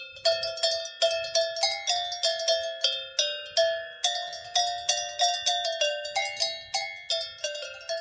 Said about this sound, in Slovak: A veru sme mi veru z kraja Janošíka, teraz vám tu zahrá zo zvoncov muzika. Teraz vám tu zahrá zo zvoncov muzika.